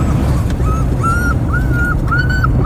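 A dog whimpers in a string of four or five drawn-out, high-pitched whines, evenly spaced, over a steady low rumble of background noise.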